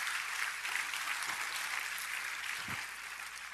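audience applause

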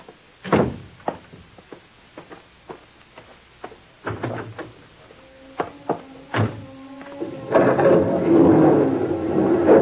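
door opening and closing

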